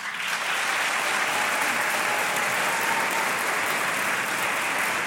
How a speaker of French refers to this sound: Afin de contourner l'interdiction de se balader en forêt privée, sans pour autant piétiner le domaine des riches propriétaires, on va voter pour ou contre mettre des patins pour faire de la rando en nature. Alors par applaudissement, qui est pour ?